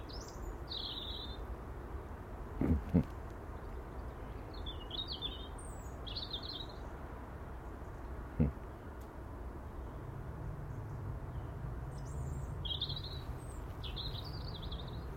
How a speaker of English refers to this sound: And the wee birdie's Twitter tweet.